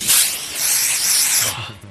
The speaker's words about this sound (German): Jetzt kann man einmal hören, wie ich mir unter die Arme sprühe.